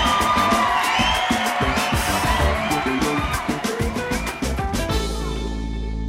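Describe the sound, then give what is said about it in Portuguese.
A crowd cheers loudly to welcome a guest, with whoops and yells over dense clapping that holds steady for several seconds before settling into a sustained roar near the end. “Obrigado, salve de palmas,”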